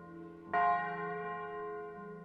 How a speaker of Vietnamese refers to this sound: Đằng xa, tiếng chuông nhà thờ vang lên những hồi chuông dục dã.